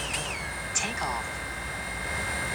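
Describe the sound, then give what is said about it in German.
A small camera drone lifts off in normal flight mode with a steady, thin high-pitched motor whine, fairly quiet, holding an even pitch throughout with a faint airy hiss underneath. “Die ist auch leiser auf jeden Fall als die große Mavic, das würde ich auch sagen.”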